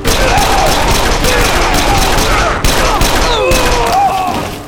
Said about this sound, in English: No other sound but the echo from the original explosion, and the sounds of the smaller explosions, now coming in rapid succession, could have been heard.